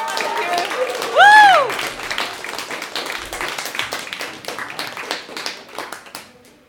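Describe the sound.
An audience applauds with steady, dense clapping for several seconds, and a loud whooping cheer rises and falls near the start as crowd voices mingle in, giving applause and encouragement to performers who may be performing for the last time.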